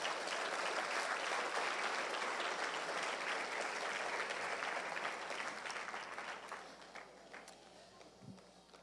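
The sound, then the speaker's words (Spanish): A church audience applauds for the Lord during a sermon, a dense, steady wash of many hands clapping that holds strong for several seconds, then gradually thins and fades toward the end. “Dele un fuerte aplauso al Señor, no se reprima.”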